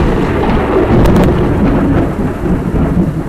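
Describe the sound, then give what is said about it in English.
A loud, close crack of thunder breaks into a heavy rolling rumble that fills the whole stretch, with the steady hiss of pouring rain underneath and no voices. “That one was really goddamn close.”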